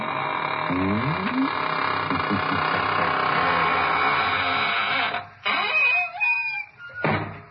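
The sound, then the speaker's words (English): A door creaks slowly shut with long, drawn-out squeals that rise and fall in pitch over a dense, noisy background, broken near the end by a couple of short knocking bumps. “And now it's time to close the squeaking door, so good night.”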